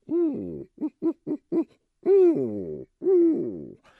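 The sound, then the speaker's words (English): A voice imitates a great horned owl's deep hooting: one long hoot, a quick run of four short hoots, then two drawn-out hoots, clear with no other sounds. “The larger owl, the great horned owl, has a different pattern. It doesn't says who cooked for you. It's a deeper call.”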